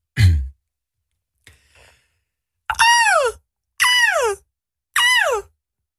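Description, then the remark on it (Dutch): A DJ from Belgium imitates a seagull in the Slam Studio, first with a short breathy intake and a faint rustle, then three loud, strained cries, each rising then sweeping down in pitch, spaced about a second apart. “Ga nu in de Slam Studio een meeuw nadoen.”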